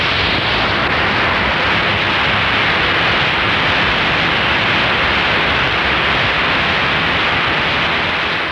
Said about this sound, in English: Now let's go from 880 up to 890 and then back to 880. Listen for that hiss that we heard on WOR's signal.